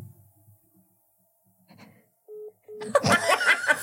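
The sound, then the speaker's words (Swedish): Two short, steady ringback tones from a phone call, clear, separated by a brief gap, followed immediately by a burst of loud laughter and noise. “Ring, han ringer, bara, ringer, ringer.”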